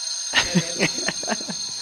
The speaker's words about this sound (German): Ja, in dem Moment würde wahrscheinlich der Mario Cavicelli gerne den Wecker auf den Mond schiessen.